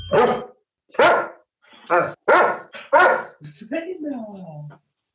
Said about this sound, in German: Oh, warte, ich muss dem Hund jetzt erstmal ein Leckerli geben. Das hat er nämlich fein gemacht. Und, gebellt für unseren Podcast.